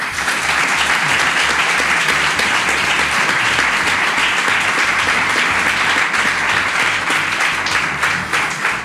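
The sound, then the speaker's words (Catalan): Sustained applause from an audience at the Joan Omar Tori public library in Marxalenes, a dense steady wash of many hands clapping at once, loud and continuous for the full length with no voices standing out. “Moltíssimes gràcies i un aplaudiment per a ells també.”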